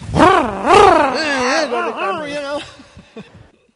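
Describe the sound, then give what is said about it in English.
A voice imitates a chainsaw revving, as a man who cuts down trees does on seeing a tree, with rising and falling buzzy harmonic sweeps that surge twice loudly, then sputter off into a few short clicks and fade. “You know, he sees a tree, and then when he sees a tree, he goes, chainsaw.”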